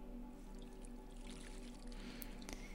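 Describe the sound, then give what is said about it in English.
Water pours steadily into a bath, a soft continuous splashing and trickling, quiet, with a faint low hum beneath and no one speaking. “I hope the water temperature is pleasant for you.”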